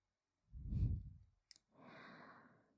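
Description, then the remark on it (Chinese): Intimate breathing right at the microphone from a woman sitting astride the listener's lap, face to face: a heavy, sigh-like exhale with a low rumble, a small click, then a long, airy breath that fades out. No one speaks. “姐姐像这样跨坐在你的腿上，和你面对面，是不是能感受到姐姐的呼吸声？”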